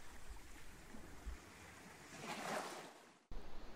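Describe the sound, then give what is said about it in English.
Ocean waves wash onto the beach at St Ninian's in a steady hiss that swells to a breaking crest and then pulls back, with a little wind rumble and no voices. “If I asked you what you see, I wonder what you'd say. Sand? Waves? Sky? Grass?”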